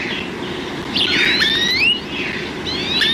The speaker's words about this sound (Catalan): Verdum, Cloris cloris. Ocell que habita a camp obert tots els mesos de l'any.